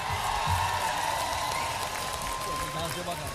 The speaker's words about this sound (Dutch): Applaus voor jullie, man!